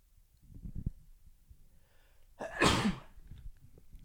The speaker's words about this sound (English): And I think I have a sneeze.